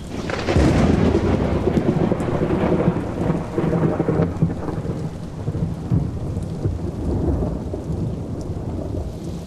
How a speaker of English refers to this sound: Suddenly, the sky darkens and the wind begins to blow. A storm is coming.